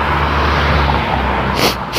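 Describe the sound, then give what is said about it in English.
A steady low rumble fills the background, then near the end come two quick, breathy nasal sniffs, fairly loud, one right after the other. “Oh, snort. And of course I don't have a handkerchief with me or anything, so.”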